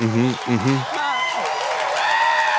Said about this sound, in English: Why are they cheering like this? Because they're excited that she didn't fall over.